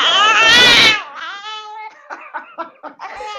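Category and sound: human body sound, baby crying and babbling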